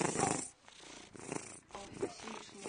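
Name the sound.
cat purring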